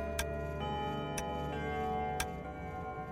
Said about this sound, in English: The quarter was so long that he was more than once convinced he must have sunk into a doze unconsciously and missed the clock. At length, it broke upon his listening ear.